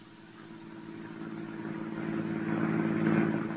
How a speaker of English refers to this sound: To my car, then. I'll tell you the story as we drive to our destination.